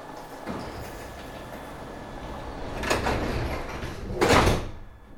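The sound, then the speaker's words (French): A metro carriage en route to Porte de Versailles on a Tuesday morning hums and rumbles steadily, then sliding doors hiss and thud twice, the second burst louder, over the continuous low drone of the train. “Dans le métro, en route pour la porte de Versailles.”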